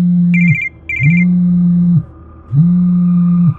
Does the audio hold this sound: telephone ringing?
yes